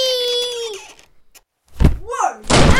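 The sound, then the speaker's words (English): A loud crash as someone sliding down a banister slams into the wooden basement door, a heavy thud followed by a second rattling impact, after a brief drawn-out cry of "Whee" and a short pause. “Oh no, did I break in the door? Yeah, you whacked it.”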